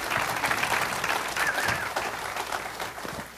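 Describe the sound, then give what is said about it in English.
An audience applauds steadily for a few seconds to welcome a minister coming up to share the word, a dense wash of many hands clapping at once with a few brief cheers rising above it, no one speaking. “And so I want y'all just to just give him a round of applause as he comes up.”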